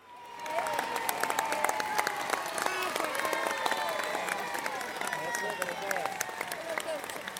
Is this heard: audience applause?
yes